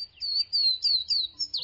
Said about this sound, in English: Swainson's warblers do, however, respond aggressively to a recording of their own song. That's how ornithologists confirmed the presence of these elusive warblers and discovered a vital connection between the two mountain forests 1,000 miles apart.